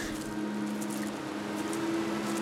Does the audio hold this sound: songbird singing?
no